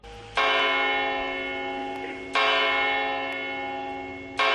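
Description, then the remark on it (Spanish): Large church bells of Almería Cathedral strike the hour, three heavy tolls about two seconds apart, each ringing out with a long rich hum that decays slowly before the next stroke. No voices are heard. “Bueno, estas campanas dando la hora nos introducen en la leyenda del tesoro oculto de la Catedral de Almería”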